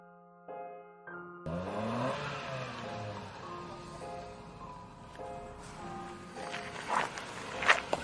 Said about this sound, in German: Am 1. Oktober schrie … Besucher an und ließ den Motor seines Autos aufheulen.